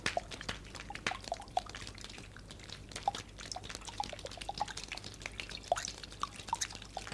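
Steady rain falls from a grey sky at a fairground with stalls, with many irregular drips, small water drops tapping and plinking in a continuous scattered pattern, with no voices.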